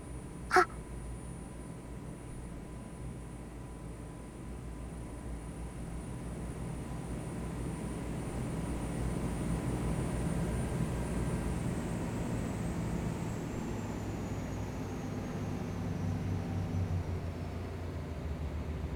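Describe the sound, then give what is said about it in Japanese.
A steady engine drone rumbles continuously, growing a little louder midway, then its high whine slowly slides lower in pitch as the engine note changes and the speed visibly drops, with a brief click near the start. “エンジン音変わったぞね。スピードも目に見えて落ちて。”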